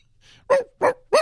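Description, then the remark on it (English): A dog barks three times in quick succession, each bark sharp and loud, with brief silent gaps between them and no one speaking. “Let the dog out.”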